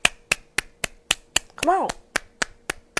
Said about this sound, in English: Like, come on, clap.